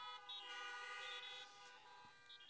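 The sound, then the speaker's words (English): Several car horns honk together in a loud, sustained chorus of overlapping blasts that keeps going for the whole moment, with one horn briefly standing out near the end. “So if you are in Galatians chapter 5, verse 1, honk your horn.”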